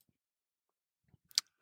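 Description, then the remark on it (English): A brief burst of keyboard typing: a few soft taps followed by one sharper, brighter click, quiet, after a stretch of near silence with no voices. “I think I just heard typing.”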